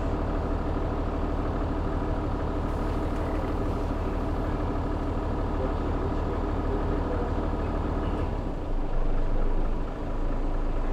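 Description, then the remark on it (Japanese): A large bus engine idles steadily before departure with a low, constant rumble that fills the whole stretch, a slight shift in tone near the end as if revving or about to move off. “間もなくの発車となります。”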